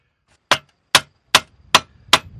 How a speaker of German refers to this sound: Und mit dem Tängelhammer zieht man das, spitzt man eigentlich wie ein Bleistift, muss man auch nachspitzen, spitzt man die Sense, indem man mit dem Hammer auf die Sense schlägt, auf dem Tängelstock. Und das tönt so.